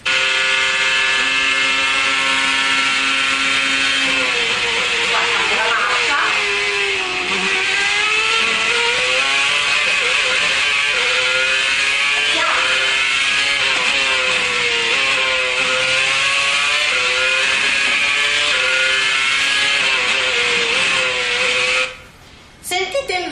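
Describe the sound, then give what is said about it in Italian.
A racing car engine heard onboard Alonso's car roars loud, holding a steady, monotonous high-pitched whine with only slight wavering in pitch, as the listener moves with the car, then cuts out briefly right at the end. “Vi faccio sentire, prima siamo in macchina con Alonso, cioè siamo nella macchina con lui, quindi noi non ci muoviamo rispetto alla macchina. Sentite com'è monotono o monotono il suono, eh?”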